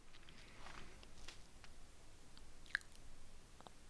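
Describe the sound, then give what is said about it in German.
Wet mouth noises smacked into a microphone: soft lip smacks and clicks scattered irregularly against a quiet background, with one sharper little smack standing out near the end. Nobody speaks. “Ich habe gerade schon wieder ins Mikrofon geschmatzt.”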